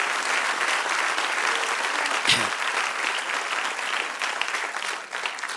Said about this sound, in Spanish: Napoleón Bonaparte, si le aplaude, apláudele fuerte.